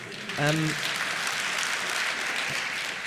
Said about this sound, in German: Und da könnt ihr auch klatschen.